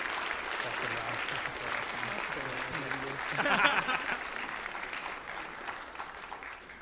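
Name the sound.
audience applauding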